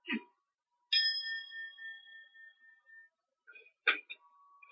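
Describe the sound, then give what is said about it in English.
A singing bowl, used as a gong, is struck once as a test and rings out with a clear, sustained metallic tone that slowly fades over a couple of seconds, with brief handling noises before and after. “But first, let me test this gong, this singing bowl.”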